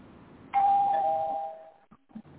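A single electronic doorbell chime sounds clearly with a bright sustained tone that slowly fades, followed by a couple of faint thumps.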